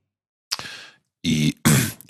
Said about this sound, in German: Und immer noch dieser eine Räusperer da mit rein muss. Der gehört mittlerweile zum Trailer dazu.